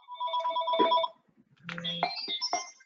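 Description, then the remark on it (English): A phone rings with an electronic, melodic ringtone: two short bursts of bright, warbling tones separated by a brief pause, fairly clear and with no one talking. “I think he might be on the phone.”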